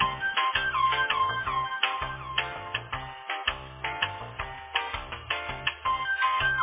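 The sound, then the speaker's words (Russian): A phone rings with a tinny, melodic ringtone that loops steadily and fairly loud for several seconds, with no voices over it. “Разница, ты не знаешь, что звонит.”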